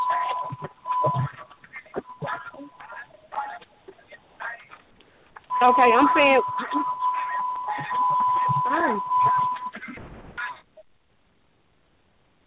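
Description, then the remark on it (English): A car alarm sounds a steady, high electronic tone, first in short bursts and then a long unbroken stretch, running beneath people talking over a muffled phone line. “hold on, somebody has a car alarm or something going off.”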